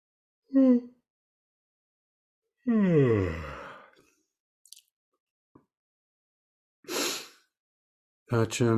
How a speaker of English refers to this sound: After I yawn one more time, at least.